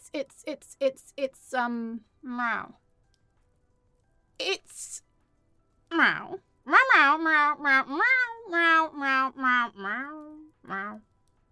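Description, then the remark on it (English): A person imitates a cat with a run of high, stretched meowing cries, some rising and falling in pitch, several in quick succession with short pauses between, fairly loud. “it's meow.”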